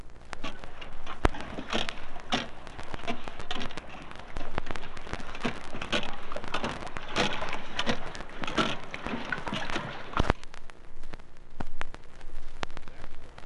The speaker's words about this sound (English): That's the sound the rudder makes as the boat lies at its moorings.